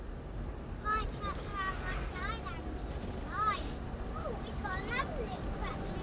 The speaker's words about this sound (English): A tractor, Chris. Where? Just now coming.